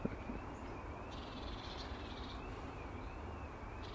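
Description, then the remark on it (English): A faint bird call rises over a steady outdoor hiss in a garden in the morning, with a thin, high sustained tone running through the background. Quiet, no voices. “Rare bird call.”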